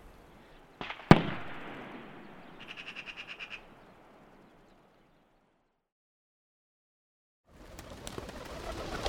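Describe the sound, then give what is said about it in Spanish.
A sharp bang rings out, followed by a brief rapid fluttering of wingbeats as a flock of wood pigeons crosses the sky over a forest, then quiet before more rustling outdoor noise returns. “Otras modalidades de caza menor tienen como objetivo liebres, perdices, tórtolas y palomas torcaces, como este bando que cruza ahora el cielo de este bosque.”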